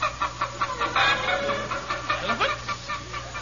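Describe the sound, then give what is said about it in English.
Several chickens cluck busily and irregularly, their short squawky clucks overlapping over a faint steady low hum, with no one speaking. “These are chickens.”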